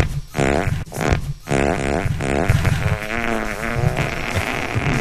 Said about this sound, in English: this is … motorcycle fart